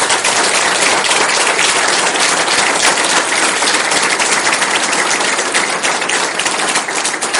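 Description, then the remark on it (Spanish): A crowd applauds for Jesus Christ steadily for several seconds, a dense, loud wash of many hands clapping at once, with no voices speaking over it. “Entonces, ¿quién es el que merece los aplausos?”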